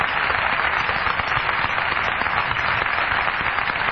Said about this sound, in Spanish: El que aplaudió a Patricio Barton es Jorge Dorio.